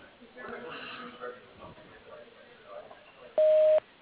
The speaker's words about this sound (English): Please leave a message after the tone, along with a phone number where I can reach you.